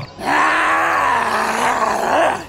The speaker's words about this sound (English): Within a second, she lunged at me, letting out an animalistic growl.